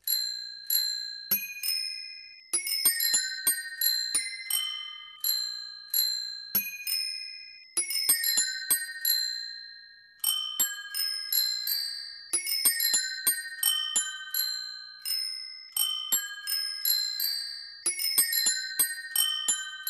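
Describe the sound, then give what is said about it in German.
A bicycle bell orchestra rings out a bright melody together, with quick, overlapping dings forming a steady tune that repeats in phrases for the whole stretch, clear with no talking. “Ihr hört jetzt das einzigartige … Fahrradklingelorchester”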